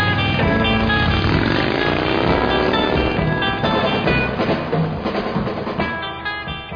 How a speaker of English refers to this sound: Whose motorcycle is this? It's a chopper, baby. Whose chopper is this? Zed's.